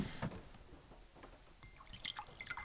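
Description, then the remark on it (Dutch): Water being poured into a glass: a faint, uneven trickle with small splashes and drips, turning brighter and more bubbly toward the end, with no voices. “We komen van een beetje wijn bijgetankt en water.”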